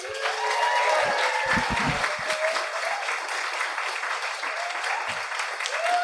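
An audience at a science comedy night claps steadily for several seconds, a dense, even wash of hand claps with a few brief whoops and cheers rising over it.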